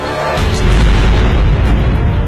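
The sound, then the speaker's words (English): A powerful explosion from a Hamas Cornet anti-tank missile striking an Israeli bus erupts into a loud, deep booming roar, with heavy low rumble and crackling debris noise sustained for about two seconds, no voices. “One Israeli soldier was injured in that explosion.”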